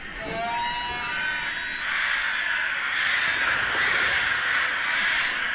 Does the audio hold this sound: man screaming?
no